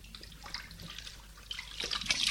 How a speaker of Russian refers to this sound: Придя в этот день с работы, Дима пошел в ванную освежиться студеной водой